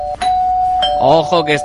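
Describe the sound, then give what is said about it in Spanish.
A doorbell rings during a Radio Marca broadcast with a sustained electronic tone that holds steady, and a voice starts talking over it partway through while the ringing continues underneath. “Ojo que está sonando, y cuando suena el timbre”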